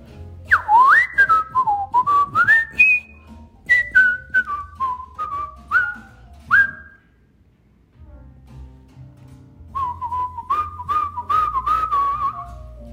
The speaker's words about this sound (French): C'est vrai, c'est une affaire que vous savez pas. Je suis un des plus grands siffleurs d'Amérique du Nord. Je pense que je vous ai jamais parlé de ça. Vous pouvez me lancer tous les défis du monde.